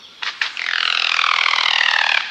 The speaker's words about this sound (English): Looking like a slim turkey, 2 feet long and all black, the Highland Guan perches on a tree branch, whistles, and then glides on vibrating wings. The resulting wondrous sound is like no other.